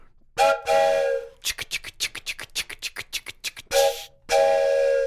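A loud Adventure District Train Ride train whistle gives two sharp toots, then a quick rhythmic chugging like a steam engine, before two more long whistle blasts ring out.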